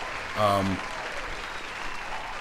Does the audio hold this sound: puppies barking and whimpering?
no